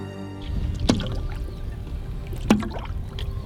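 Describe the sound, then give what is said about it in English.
Oar blades bite into the water twice in a steady rowing rhythm, each catch a sharp splashy knock, over a continuous low wash of moving water. No one speaks. “When you hear it, that means it gives you the green light to push and row. You're actually catching where you're supposed to.”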